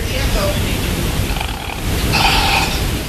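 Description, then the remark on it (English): A steady, hissing locomotive rumble plays through an outdoor locomotive remote sound system, sounding echoey, with a brief brighter tonal swell near the end. “There is the outdoor locomotive remote sound system, and you can put it up right now. You can hear the echo.”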